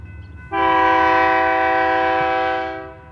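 A passenger train's horn blares in one long, steady chord for over two seconds, loud and close, fading out at the end, with the low rumble of the rolling train underneath.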